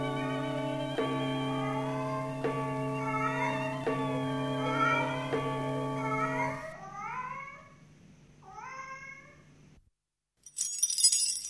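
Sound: cat meowing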